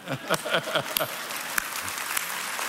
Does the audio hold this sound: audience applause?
yes